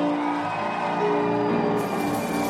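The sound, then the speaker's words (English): A large crowd at a religious gathering screams and cheers loudly and continuously to honor a prophet and bishop, with voices blending into a dense roar over sustained musical tones for the whole stretch. “Add a scream to what you are doing.”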